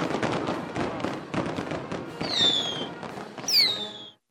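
A rapid string of fireworks pops and bangs, punctuated by two shrill whistling rockets that sweep downward in pitch before the barrage cuts off.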